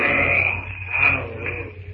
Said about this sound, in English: The greater of the apes emits a fearful cry, which echoes through the jungle to silence all within hearing distance with its ferocity. It is a challenge.